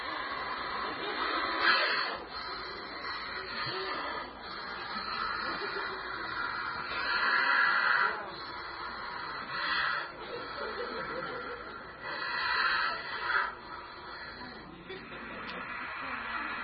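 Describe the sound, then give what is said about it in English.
A snake hisses repeatedly, expelling all the air from its body with each harsh, breathy hiss, then pausing to pump itself full of air again, recurring every couple of seconds at moderate loudness, while a person moves a hand near it to provoke it. “You will notice he expels all the air out of his body with each hiss, and then he has to pump itself all back up full of air.”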